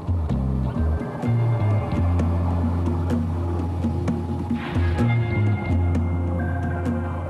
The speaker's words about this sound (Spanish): Los exploradores submarinos lanzan el robot millonario llamado VOR, o vehículo operado remotamente. La máquina se propulsa cientos de metros por debajo de la superficie.